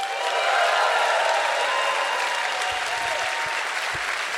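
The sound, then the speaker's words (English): A crowd applauds a player who has won a hat, steadily for a few seconds, a dense, even wash of many hands clapping at once with no voices breaking through, holding a fairly constant loudness throughout. “Clap your hands”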